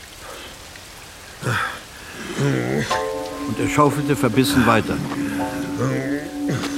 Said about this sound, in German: Es regnete gleichmäßig und ohne Unterlass.